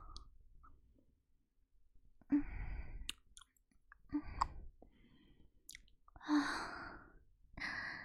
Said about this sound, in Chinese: 听着姐姐的喘息声，听着姐姐的指挥。